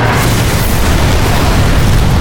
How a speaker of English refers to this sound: Then we crossed the invisible line bordering the battlefield, and the explosions became something we felt as well as heard. At one point, an ATV leaped over a ridge and exploded into a fireball.